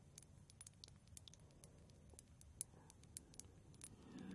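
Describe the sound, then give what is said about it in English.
Light, gentle taps on glass come in a quick, uneven scatter of small sharp clicks, some slightly louder, over a soft low rumble that swells near the end. “Listen to the tapping.”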